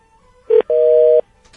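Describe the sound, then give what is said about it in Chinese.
Telephone line tones as a call briefly connects and then cuts off: a short electronic beep followed by a longer steady tone lasting about half a second, then abrupt silence, loud with no talking. “对，嗯，为什么好一下刚刚通一下就跳到一个不通的境界？”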